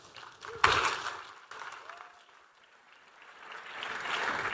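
An audience applauds to welcome a speaker from the Capella Education Company, who is about to talk on mobilizing websites: a dense, crackling patter of many hands that swells quickly, eases off midway, then builds again toward the end, with no clear speech over it.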